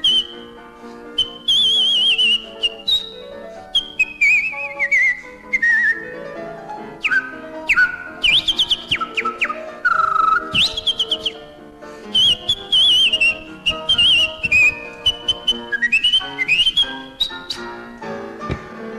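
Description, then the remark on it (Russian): A person whistles bright, rapid birdlike trills and warbling phrases with sliding pitches, imitating a nightingale's song, loud, continuing steadily with brief pauses between runs. “Я прошу от соловья принять привет и вот эти москонцертовские трели.”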